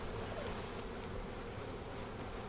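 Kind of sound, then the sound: insect, honeybees buzzing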